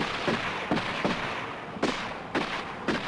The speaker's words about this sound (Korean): 밧줄에 묶인 채 끌려가던 젊은이들이 어딘가에서 멈춰 서고 뒤이어 들리는 총소리.